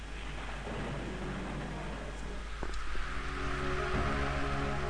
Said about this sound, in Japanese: 今の何？ 雷が起こり風が吹いた。